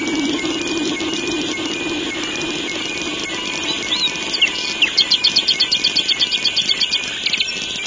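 Black redstart song: a few thin, high whistled notes followed by a fast, even series of dry, scratchy pulses, over a steady low background hum.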